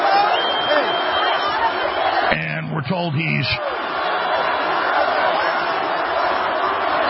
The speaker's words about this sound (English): No, it's just roaring applause. It goes on and on.